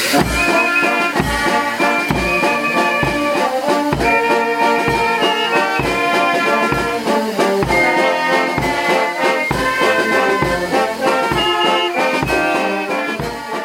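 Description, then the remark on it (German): A brass band from Kronstadt plays a lively serenade at a railway station before setting off on a narrow-gauge train trip through the Wassertal, with steady beats and bright sustained chords, loud, continuing without pause and with no talking. “Vor der Abreise spielten die Musikanten ein Ständchen am Bahnhof.”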